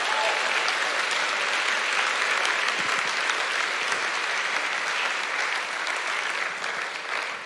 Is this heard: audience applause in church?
yes